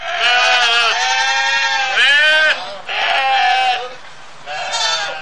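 Sheep bleat loudly, several long wavering calls following one another with brief pauses between them, and no other sounds around them.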